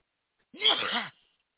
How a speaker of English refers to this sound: got to sneeze. Hold on.